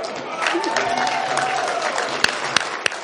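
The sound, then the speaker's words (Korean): A crowd bursts into steady, dense applause with cheering voices mixed in as an artist unveils his painting on stage at an event, the clapping continuous throughout and a few sharper claps standing out near the end. “그리고 그림을 공개하자 사람들의 박수와 환호가 쏟아져 나왔습니다.”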